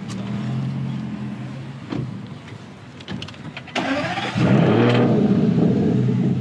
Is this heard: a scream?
no